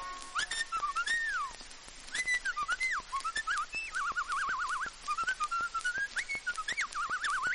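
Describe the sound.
A person whistles a blackbird-like song: fluting phrases with rising and falling slides, quick warbling trills and short chirps in a steady run, with no talking.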